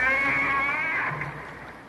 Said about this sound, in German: Hören Sie den Gesang der Buckelwale? Da vorn schaut gerade einer aus dem Wasser.